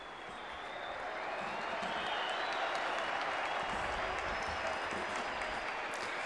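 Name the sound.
audience applause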